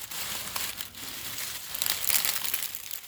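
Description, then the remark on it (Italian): Dry, papery corn husk leaves rustle and crinkle steadily inside a canvas sack used as a mattress, a dense crackling hiss that swells louder toward the end. No voices are heard. “Un tempo, nella frugalità delle saline, si sostituiva ai materassi lasciati a casa in paese un sacco di tela riempito dalle foglie tolte alle pannocchie di Gran Turco.”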